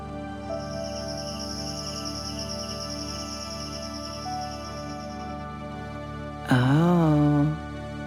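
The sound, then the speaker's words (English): Jungle insects chirp in a steady, shrill, high-pitched trill for several seconds, over a low background hum, before a brief loud wavering call breaks in near the end. “Do you think that was insects?”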